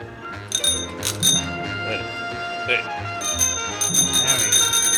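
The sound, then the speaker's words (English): A hand bell rings in the new year in bright, metallic bursts, shaking on and off and then jangling steadily toward the end, over a low murmur of voices. “I have my bell here somewhere.”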